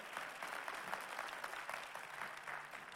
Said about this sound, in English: Come on, let's give the Lord a big hand clap this morning.